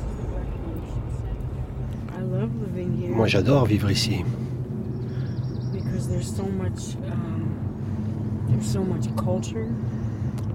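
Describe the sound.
A steady low engine rumble and road noise from inside a car moving along a small road from the town of Pembroke to the Lumber River, continuous throughout, with a person speaking briefly over it.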